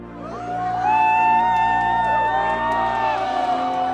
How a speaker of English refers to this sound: Jed turned to face the applause. It grew from a modest murmur into a thundering chorus, hundreds of hands coming together in unison.